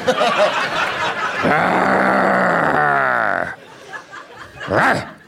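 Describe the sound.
A woman lets out a long, strained growl, rough and sustained for a couple of seconds with a wavering pitch, followed by quieter vocal noises and a brief rising-and-falling vocal sound at the end.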